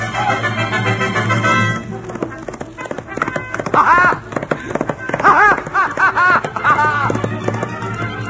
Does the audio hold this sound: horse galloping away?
yes